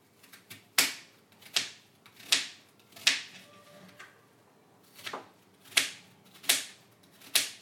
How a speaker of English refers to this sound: So I am chopping the onion. Two onions, really dicing them.